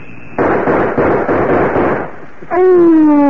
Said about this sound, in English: We shot at Willa. Willa? Right in the middle of the advertising.